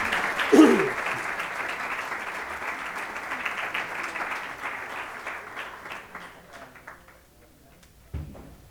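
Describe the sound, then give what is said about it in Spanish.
An audience breaks into sustained applause for the director and choreographer of the Escuela Municipal de Danza de Torre Pacheco, a dense crackle of many hands clapping that holds steady for several seconds before thinning out and fading, with a brief low thump near the end. “Aparte que el espectáculo que nos va a dar la Escuela Municipal de Danza de Torre Pacheco con su directora que tenemos aquí presente y que realiza la coreografía y un gran trabajo, pido un aplauso también para”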